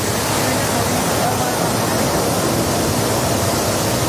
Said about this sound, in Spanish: Hoy vivimos un día de tregua con menos lluvia en nuestro país, pero en el embalse de Tentudía, en Badajoz, el agua sale con fuerza a través de los aliviaderos por primera vez desde 2014, hace 11 años.